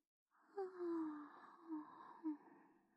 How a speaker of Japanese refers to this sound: 姉さんだって大きなあくびしてる。